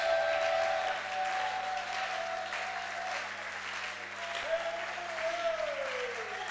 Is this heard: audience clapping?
yes